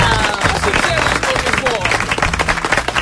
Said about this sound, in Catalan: Un aplaudiment per ell.